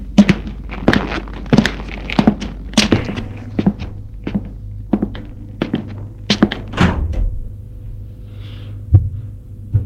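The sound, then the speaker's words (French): A door leading to a courtyard that is currently a construction site is opened amid a jumble of irregular thunks, knocks and clicks over a low steady hum, ending in a sharper clack. There is no talking. “Il a ouvert une porte qui mène à une cour.”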